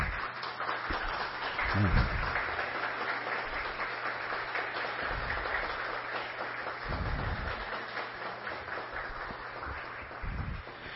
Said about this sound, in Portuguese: Acho que merece uma salva de palmas, né?